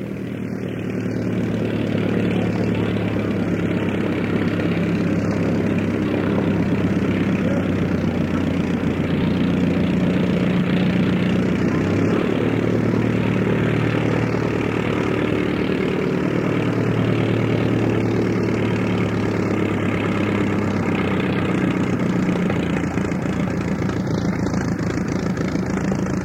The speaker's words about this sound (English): Okay, this one's a De Havilland Moth, little English sport plane. Little inline engine coming up the line.